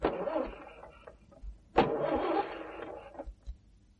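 A car engine, overhauled last month, cranks twice without catching in the middle of nowhere: two grinding, whirring starter bursts of about a second each, separated by a short pause, with dull low thuds in between and no voices.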